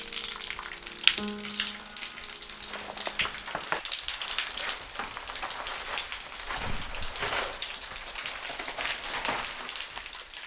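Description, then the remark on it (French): Water drips and patters steadily like rainfall, a dense, continuous spray of droplets echoing underground in the depths of the Pyrenees, with faint low tones early on and no voices. “Voici le son des entrailles pyrénéennes.”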